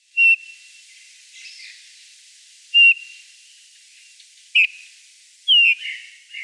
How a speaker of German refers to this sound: Eine ganz tolle Art, nicht nur akustisch, sondern auch visuell. Eine Finkenart und die ist im deutschsprachigen Raum unter zwei Namen bekannt. Im Englischen wird sie Bullfinch genannt.